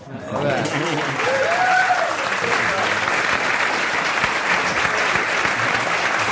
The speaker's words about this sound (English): Did you all enjoy the show? Well, give this fabulous cast another big round of applause.